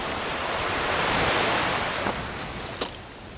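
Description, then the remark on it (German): Steady roar of sea waves of a rising tide washing onto the shore and eroding the land, a broad rushing swell that builds and slowly recedes, with a couple of sharper splashes near the end and no voices. “während wir älter wurden, kam die Flut immer näher und trifft heute das Festland. Sie spült alles weg.”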